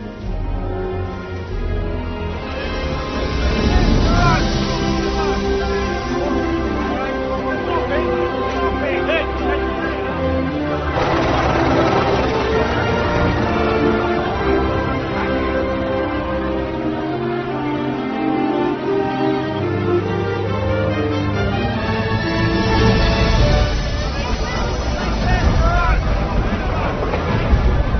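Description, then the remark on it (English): A large ship moving at sea, with a continuous rush of wind and water over a low engine rumble, steady and fairly loud throughout, while indistinct voices murmur underneath. “Boat, huh? Daddy, it's a ship.”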